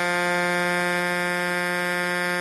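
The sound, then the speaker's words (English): A loud, continuous blast from a custom car horn like a giant 18-wheeler's air horn, holding one steady, brassy low-pitched tone with rich harmonics for the full two and a half seconds, with no talking over it. “It's like a giant 18-wheeler.”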